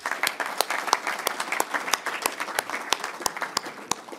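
An audience at a D66 Papendrecht meeting applauds steadily to thank a party member, a dense patter of many hands with a few sharper individual claps standing out at a fairly even rhythm; no one speaks.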